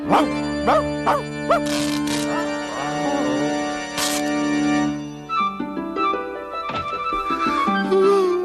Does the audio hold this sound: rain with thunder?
no